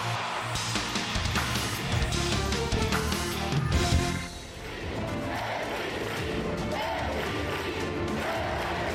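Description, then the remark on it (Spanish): A large arena crowd in Lugo chants "MVP" for Musa, Breogán's 23-year-old Bosnian star and the league's best player, in loud, rhythmic unison over a dense roar of cheering, dipping briefly midway before swelling again and carrying on steadily to the end. “MVP le gritaban hace un mes a Musa en Lugo, a la estrella del Breogán, a ese joven bosnio de 23 años que ha ganado el título de mejor jugador de la liga metiendo 20 puntos de media por partido.”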